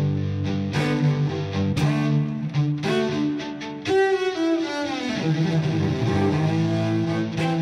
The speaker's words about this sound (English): But for the most part, I get the electronic sounds from my cello. I go through a guitar effects processor, and then I run that through a looping pedal. And so I use all kinds of like delay and distortion and reverb and different sounds like that.